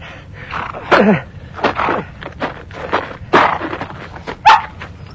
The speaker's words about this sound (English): The revelers rode close together and soon came upon a cluster of whimpering hounds.